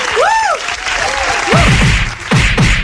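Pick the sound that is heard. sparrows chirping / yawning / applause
applause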